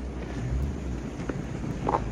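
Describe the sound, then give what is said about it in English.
A low, steady rumble of car engines drones, heavy in the bass and continuous throughout, with faint scattered noise on top and no voices. “That's the Duke. I know the sound of his engines.”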